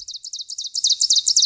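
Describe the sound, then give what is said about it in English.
An ovenbird, a ground-dwelling forest warbler, sings: a rapid, rhythmic series of loud, ringing two-note phrases that build in volume, repeated steadily with no other sounds. “Let's start on the ground with our warbler, the ovenbird.”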